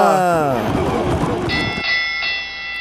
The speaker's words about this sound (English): Double bells. That's what it should have been. That's what it should have been.